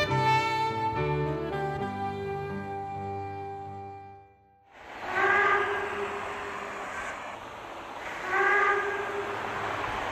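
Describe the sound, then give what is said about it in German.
After a few seconds of sustained melodic tones, the steam locomotive of a narrow-gauge railway over 100 years old on the island of Rügen, Germany, lets out two loud, shrill whistle blasts over a constant rushing hiss of steam, with no talking. “So kündigt sich der rasende Roland an, die Dampflokomotive der über 100 Jahre alten Kleinbahn.”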